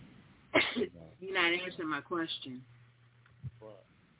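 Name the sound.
sneeze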